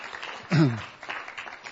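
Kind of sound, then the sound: crowd, audience applause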